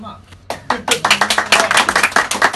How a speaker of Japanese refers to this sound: 結構来てるよっていう方、拍手